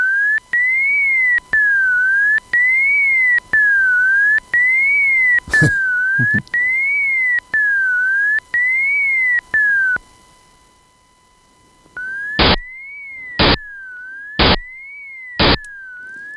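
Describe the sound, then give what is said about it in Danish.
A steady whistle-like tone glides up and down in a repeating zigzag, then after a brief silence returns and is cut by four loud, evenly spaced bursts of noise about a second apart. “Læg mærke til, hvordan tonen fortsætter op igennem støjen.”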